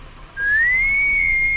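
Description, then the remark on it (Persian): A single sustained whistle that starts a little after the beginning, rising slightly in pitch and then holding a steady tone, clear, with no talking. “چرا سوت میزنه؟”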